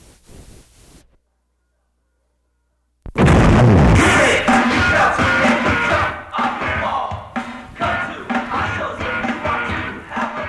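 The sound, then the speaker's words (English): After a brief silence, a sudden loud explosion-like boom bursts in, followed by a sustained, roaring wash of noise, like a crowd cheering, that stays loud to the end. “What was that? It sounded like a bomb or something.”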